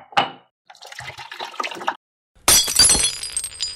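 A china dish slips and shatters: a sharp initial clink, a short run of clattering, then a loud bright burst of breaking pieces that rattle and skitter before fading. No voices.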